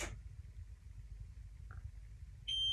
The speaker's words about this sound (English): On the screen of the appliance, I find the bottom right corner and close the door. That noise indicates that the door is shut and I can begin to use the app on my smartphone.